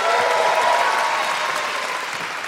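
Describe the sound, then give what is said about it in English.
A crowd claps steadily and loudly, a dense wash of many hands that holds for a couple of seconds and then begins to thin slightly toward the end. “Big round of applause.”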